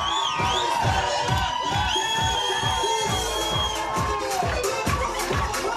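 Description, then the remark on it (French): Wedding music thumps along with a steady, driving beat while a crowd cheers and whoops over it, bright voices and melody layered loudly throughout. “Ces musiques, ces cris de joie, on pourrait les retrouver dans les toutes prochaines semaines.”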